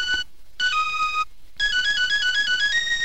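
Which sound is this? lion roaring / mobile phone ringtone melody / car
mobile phone ringtone melody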